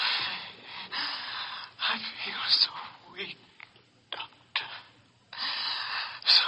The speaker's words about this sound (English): He's gasping. He's weakening.